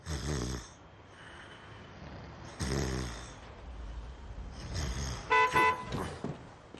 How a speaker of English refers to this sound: I must have told them 1,000 times not to honk their horn around here. They never listen.